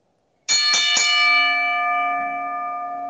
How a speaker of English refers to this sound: So, all right, DPP, do me that … and ring the bell.